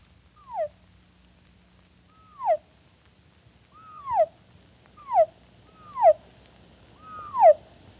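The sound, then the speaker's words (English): A chick's cheep slowed and lowered until it resembles a gull's cry: six clear, downward-sliding calls repeating at a steady pace over a faint low hum, with no talking. “Would you like to hear him transformed into a seagull?”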